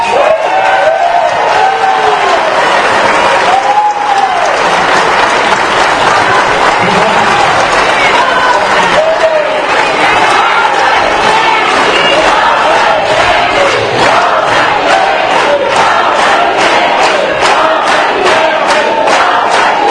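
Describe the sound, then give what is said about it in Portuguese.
A crowd applauds steadily and loudly as former mayor Guilherme Beleza is introduced, with dense clapping and scattered cheers and shouts rising above it throughout, no break in the noise for the whole stretch. “Ele pediu a economizar essas palmas para nós só.”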